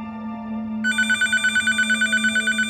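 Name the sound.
telephone ringing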